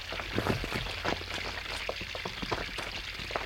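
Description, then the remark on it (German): Water trickles and splashes steadily down a passage, with a soft hiss and irregular small drips and gurgles, a thin stream running downhill. No one speaks. “Das Wasser läuft den Gang nach unten.”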